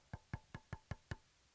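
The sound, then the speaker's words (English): Six quick, evenly spaced knocks on a wooden door, each a solid thud with a sharp edge, rapping at a steady rhythm with no voices, as Peter knocking on the door of Sister Mary's house. “And Peter knocked on the door.”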